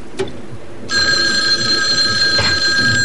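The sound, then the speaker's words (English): A telephone bell starts ringing after a brief click and keeps going without a break, a bright, shrill, metallic trill with steady high tones. No one speaks over it. “Somebody want to answer that?”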